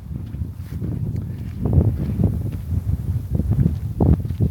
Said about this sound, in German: Kleine Windböe, die lassen wir mal durch.